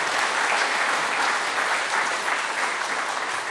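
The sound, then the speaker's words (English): A crowd applauds steadily for the mayors of Elkton, Adairville, Auburn, Lewisburg and Russellville, thanking them for their service; a dense wash of many hands clapping at an even, loud level without pause, and no voices come through over it. “Can we give them a big round of applause for all their service?”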